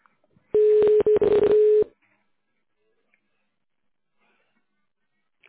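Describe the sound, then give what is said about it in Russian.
A quick run of touch-tone phone beeps as an employee extension is dialed in tone mode on the Samsung group of companies' phone line, several short electronic tones in rapid succession lasting just over a second, loud and abrupt, followed by silence. “В тональном режиме наберите добавочный номер сотрудника или дождитесь ответа.”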